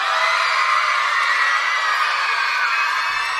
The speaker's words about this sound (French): Par exemple, pour être sûr qu'il reste dans le cha-cha-cha avec nous, il faudrait que vous lui fassiez un accueil incroyable. Genre la foule en délire. Est-ce que vous savez faire la foule en délire?